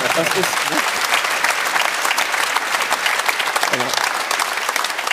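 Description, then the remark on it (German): Steady, dense applause from a studio audience fills the whole stretch at a strong, even level, with a few brief voices poking through near the start and toward the end. “So, also auf dem Bild hätte man eigentlich auch mal klatschen dürfen.”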